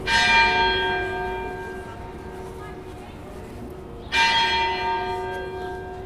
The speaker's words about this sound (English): So if you ring the bell during night, it means that something horrible is happening, for people to wake up and understand.